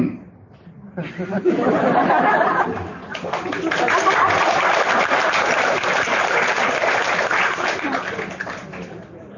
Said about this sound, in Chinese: 还没讲了就鼓掌，讲完了你们更要鼓掌。